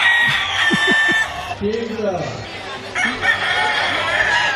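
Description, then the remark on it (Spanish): Twenty roosters crow over one another at a rooster crowing contest in a dense, continuous chorus, their overlapping calls loud against a noisy outdoor background with some clucking. “Había 33 especies de gallos, de los cuales 20 se animaron a cantar y sonaba más o menos así.”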